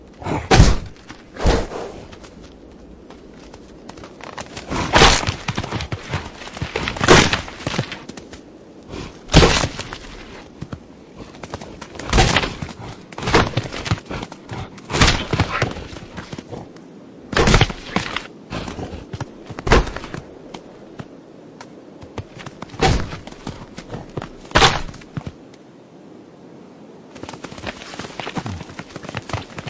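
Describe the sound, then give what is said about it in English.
Male bighorn sheep clash horns in battle in the Yellowstone wilderness at the end of autumn, sharp cracking impacts repeating at irregular intervals, roughly a dozen loud hits with softer knocks and scuffling in between, and no voices. “As the sound of their battles echoes across the Yellowstone wilderness, it marks the end of autumn.”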